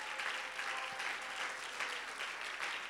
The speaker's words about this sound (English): Why don't we give the Lord a little hand clap of praise right there?